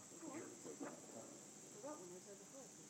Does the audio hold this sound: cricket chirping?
yes